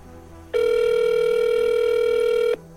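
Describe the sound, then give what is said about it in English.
A single ringback tone sounds over a phone line, one steady, buzzy burst of about two seconds at a fixed pitch that starts and stops abruptly, with no talking. “The rings continue.”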